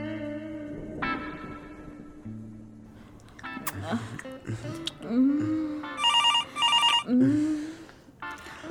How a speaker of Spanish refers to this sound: El teléfono. Deja que suene. No. Esto puede ser de Nicaragua.